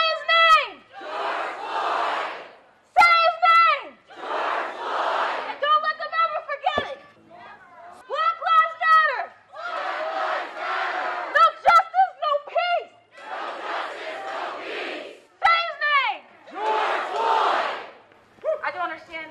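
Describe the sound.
A single amplified voice shouts short lines from the steps of City Hall, and a large crowd at a protest rally answers each one with a loud unified chant of 'Black lives matter', repeating in a steady call-and-response rhythm outdoors just before a march.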